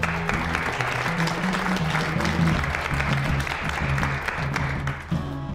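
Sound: audience applause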